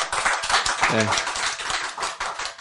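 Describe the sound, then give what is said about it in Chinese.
An audience breaks into steady applause, many hands clapping in a dense, continuous patter, with a voice briefly rising over it near the start. “拍手。”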